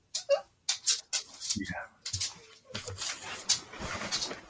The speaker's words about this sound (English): Who's the dog making a cameo right now? That was Apollo making another appearance. What up, Apollo? We had to let him out.